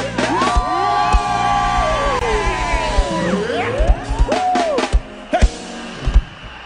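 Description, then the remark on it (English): A large crowd screams and cheers loudly, with high sustained shouts and whoops rising and sweeping over a dense roar of voices, punctuated by sharp claps or bangs throughout. “Who am I talking about? Scream!”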